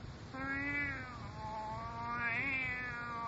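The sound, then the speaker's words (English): A white tomcat crouching in the lower boughs of an ash tree, craning over a hollow in the trunk, lets out two long, drawn-out meows, the second rising and wavering almost into a yowl, loud with no one talking. “Kitty, what do you see there inside the ash? Careful.”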